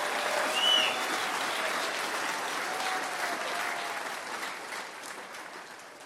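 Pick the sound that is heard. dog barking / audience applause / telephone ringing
audience applause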